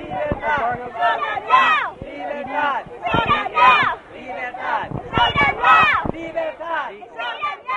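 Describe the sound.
A crowd of several hundred protesters marching on the White House sidewalk chants and shouts "Freedom now!" in loud, overlapping voices, the rhythmic bursts of many people calling out together rising and falling as they march.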